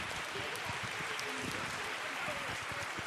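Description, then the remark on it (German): An audience claps steadily for about three seconds for the 'sheep herd' group at the front, a dense, even wash of many hands with crowd murmur mixed in and no clear pauses. “Einen riesengroßen Applaus für unsere Schafherde hier vorne.”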